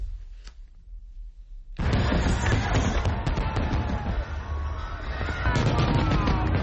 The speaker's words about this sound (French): Rien ne rassemble autant les Américains si ce ne sont pas les feux d'artifice et plus particulièrement en cette date du 4 juillet.